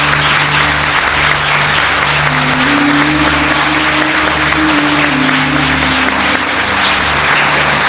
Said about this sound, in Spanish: vete ya a descansar a casa y para ti va este abrazo y en forma de aplauso que te ofrecen 400 personas.